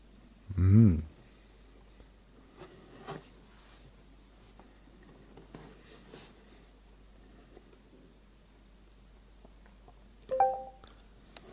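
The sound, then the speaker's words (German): Faint crunching and scratchy chewing from a pet lizard working on its food and swallowing with effort, with soft irregular clicks and a couple of louder bumps at the start and near the end. “Ich finde, er tut sich auch ziemlich schwer beim Schlucken. Immer. Das ist immer so voll der Kraftakt.”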